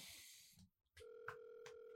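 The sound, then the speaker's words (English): After a burst of noise and a short silence, a steady electronic ringback tone sounds on an outgoing phone call, heard through the line with faint clicks and crackle. “Oh god, he never picks up his fucking phone.”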